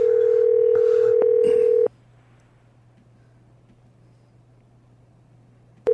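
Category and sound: household object, cell phone dialing tones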